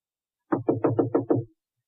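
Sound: knocking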